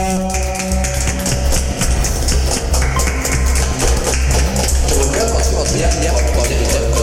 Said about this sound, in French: Nous avons un gagnant. Oh, bravo. Magnifique. Magnifique. Applaudissements. Foule d'applaudissements.